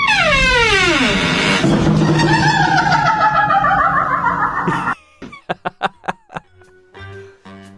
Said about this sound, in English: It's actually a door. It's somebody's kitchen door that makes that noise. I kid you not.